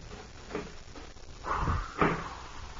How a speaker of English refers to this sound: Just open the door.